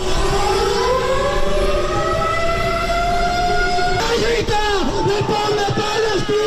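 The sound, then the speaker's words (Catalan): Wailing air-raid sirens from a simulated bombing sound loud and continuous over a large crowd's noisy chanting and shouting at a street protest in Palma against Israel's offensive in Gaza, with demonstrators lying on the ground in the avenues; 3,000 people per the government delegation, 12,000 per organizers. The sirens' pitch sweeps and wavers toward the end. “Clams i, sobretot, sirenes del simulacre de bombardeig en què els manifestats s'han estès a terra a les avingudes de Palma i també ho han fet en clans posteriors.”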